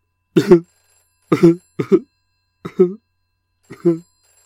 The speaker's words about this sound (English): Oh, it's that cheesy sound effect of a 1980s style landline. The kind of phone no one has anymore, but I couldn't be asked to get a more up-to-date sound effect.